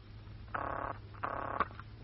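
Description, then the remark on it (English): Two short bursts of a telephone ringing tone heard down the line after a number is dialed, evenly spaced and slightly tinny, over a low steady hum, with a faint click just after the second ring. “Too late now. The number's ringing.”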